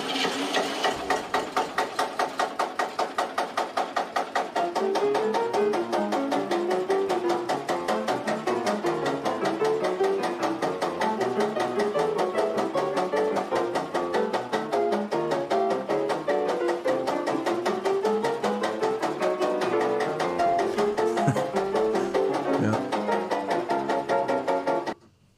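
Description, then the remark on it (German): A tractor engine, switched on and used as a beat, chugs steadily in a fast, even mechanical rhythm, loud, with a knocking pulse running unbroken for about twenty-five seconds before cutting off. “Er schaltet hier diesen unglaublichen Traktor ein und das ist dann sein Beat, seine Drums.”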